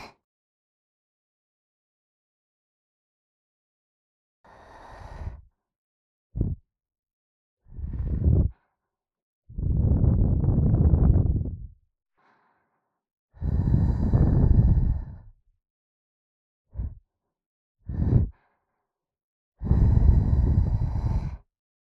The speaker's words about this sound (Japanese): じゃあ、せっかくだし、耳元で紅茶冷まさなきゃ。吐息が耳に触れちゃって、気持ちいいよ。じゃあ、早速。